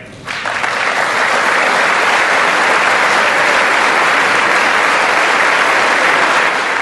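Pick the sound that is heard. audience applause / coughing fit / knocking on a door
audience applause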